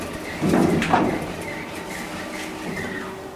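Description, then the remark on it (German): A door is opened at the top of a boiler house, about 85 metres up: a short clunk and rattle of the handle and latch, followed by a soft creak and quieter rustling noise, with no voices. “Ich mach mal die Tür auf.”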